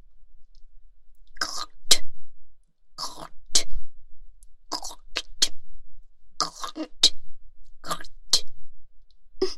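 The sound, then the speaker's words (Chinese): Someone clears their throat and spits onto the floor several times in quick, uneven bursts, each a sharp wet expulsion, fairly loud with brief pauses between and no talking. “那就喝口水，请你们大人吐在地上。”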